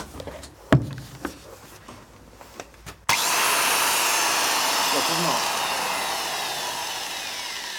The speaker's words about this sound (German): Experiment Nummer 7. Zersägen eines Mikrofons mit einer Flex.